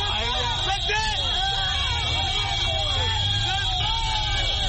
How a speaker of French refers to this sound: Des centaines de Banguissois sont sortis au bord de la route pour saluer avec des cris de joie le passage de ces camions escortés par des soldats centrafricains et russes.